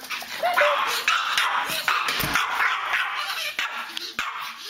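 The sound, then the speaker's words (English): A small Pomeranian dog named Boo yips and whimpers in a steady run of high-pitched yaps, whines and squeaks, with hardly a pause across the few seconds. “She said, take, for instance, Boo the Pomeranian.”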